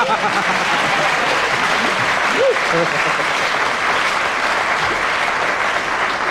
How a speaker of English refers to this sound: That was a fine bit of gamesmanship. You were drying up, so you asked for a round of applause from the audience. No. They didn't play your game. They waited, and you nearly didn't get it to the end.